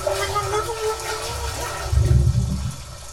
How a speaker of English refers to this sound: Oh, there's water filling.